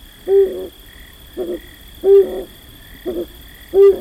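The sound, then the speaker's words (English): A male flammulated owl, a tiny owl in a ponderosa pine in a western mountain pine forest as late-summer darkness falls, gives low, mellow hoots in a steady repeating pattern, a firmer note followed by a softer one, with a faint continuous insect-like drone in the background. “Just as late summer darkness fully envelops a mountain pine forest in the west, a male flammulated owl begins to hoot.”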